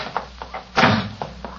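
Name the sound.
door slammed shut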